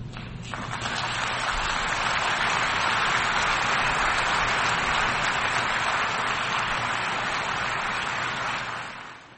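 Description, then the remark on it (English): A large crowd at the United Nations General Assembly in New York applauds U.S. President Joe Biden's speech, steadily for about nine seconds, a dense, even wash of clapping that holds at full strength before tapering off at the end. No one speaks. “A round of applause there for U.S. President Joe Biden speaking at the United Nations General Assembly in New York.”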